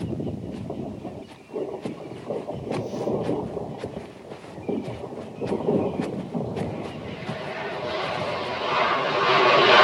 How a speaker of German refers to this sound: Da kommt noch ein Flugzeug, schon das dritte. Es bleibt genau wie die beiden anderen über der Lichtung stehen, als sei es gegen eine unsichtbare Wand geprallt. Es sind Senkrechtstarter